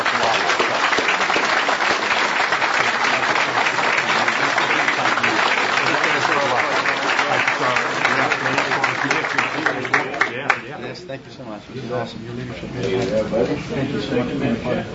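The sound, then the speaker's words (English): A crowd claps in a loud, steady round of applause for a group including Representative Tan Parker for about ten seconds. The clapping then thins out and people begin talking over the last scattered claps. “And so let's give these folks a big round of applause.”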